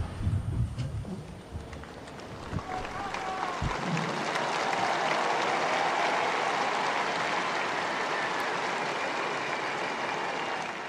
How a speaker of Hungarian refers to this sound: A zarándokok sokasága a mai napon is tapssal köszöni meg Ferenc pápa tanítását, áldását.